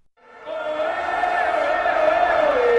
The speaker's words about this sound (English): The cheering began hours before the match started as some 200,000 or more gathered in the central Cibeles Square before a giant screen under a scorching sun.